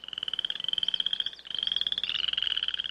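A poison dart frog calls in a rapid, continuous trill of high-pitched chirping pulses, steady, with a brief pause midway before the buzzing call resumes.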